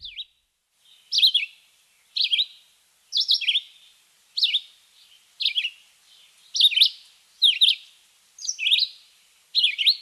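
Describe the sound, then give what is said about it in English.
A small greenish, red-eyed songbird sings from high up in a tree, a steady series of short, high, slurred phrases, about one every second with brief pauses between, clear with no talking. “These birds are very easy to hear, but hard to see, because they are way up high in the tree, and they're just a little greenish bird, and just try to see that red eye.”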